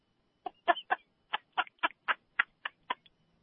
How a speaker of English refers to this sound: No, chicken coop.